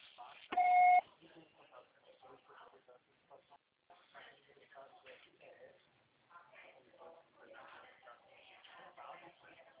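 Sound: answering machine beep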